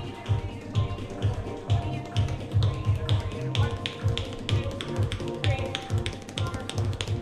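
tap dance steps

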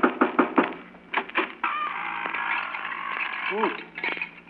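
impact, knocking on a door

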